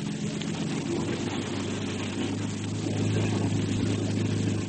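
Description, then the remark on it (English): A motorboat engine drones steadily as the boat moves in slowly toward a wrecked boat with burning gasoline spreading on the water, a deep rumbling hum with a slight throb that holds even throughout, with no voices. “This boat of ours would go up like matchwood if we tried to get through that there burning gasoline.”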